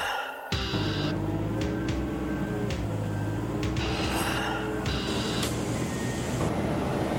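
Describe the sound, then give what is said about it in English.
Loaded coal train cars roll in steadily at a power plant, packed with coal from out of state, with a continuous heavy rumble, punctuated by periodic metallic clanks and a thin wheel squeal, fairly loud, with no voices. “Here at this power plant, every few days a string of coal cars arrive packed with coal from out of state.”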